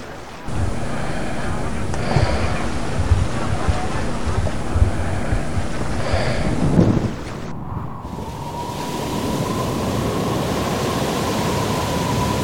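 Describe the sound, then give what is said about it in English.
A loud, steady roar of rising evening wind over the water around a boat as a storm approaches, with deep thunder rumbling underneath; partway through, the sound shifts to a thinner, hissing gust with a faint whistling tone. “This isn't an ordinary evening breeze. There's definitely a storm coming.”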